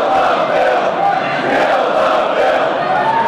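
A large crowd of protesters at the State House, from different parts of the country, shouts and chants together in a loud, continuous roar of many voices during the debate of a right-to-work bill, steady and unbroken throughout, with no single voice standing out.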